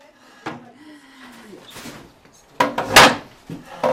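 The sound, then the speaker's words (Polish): Wooden chairs creak and shift: a drawn-out creak early on, then a louder burst of scraping and knocking as a chair is moved, with faint murmuring. “Bo to takie krzesła.”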